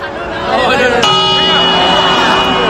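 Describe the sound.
The clock of the Puerta del Sol in Madrid marks midnight at the end of 2024: a single deep bell strikes about a second in, its ringing tone lingering and slowly fading over a steady murmur of crowd noise and voices.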